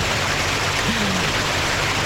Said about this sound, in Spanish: Una cascada, es una cascada. Es un puente, puente donde hay una cascada. Que la gente se sienta, se apoya en la piedra y el agua le cae en la espalda. Y que siente este ruido.